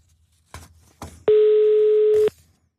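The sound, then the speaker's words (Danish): A single steady telephone ringing tone, a one-second beep on a radio host's outgoing call to Assens, preceded by two short clicks on the line. It is loud and clear, with no talking. “Ringer vi til Assens.”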